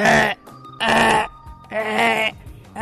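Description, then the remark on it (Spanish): A human voice imitates a rook, giving three loud, harsh, raspy caws in a steady rhythm, each separated by a short pause. “Un grajo.”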